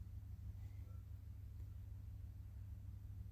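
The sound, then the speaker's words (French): A low, steady rumble of a car outside, muffled, holding an even level throughout with no voices or other distinct sounds over it. “Hein, par objet, j'entends une voiture, j'entends les gens autour de nous, le son de la ventilation.”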